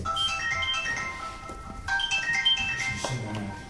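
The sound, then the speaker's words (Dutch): A phone ringtone plays a bright electronic melody of quick stepped notes, pausing briefly and then repeating the tune. It sounds moderately loud over a low background rumble. “Jouw telefoon heeft helemaal gelijk.”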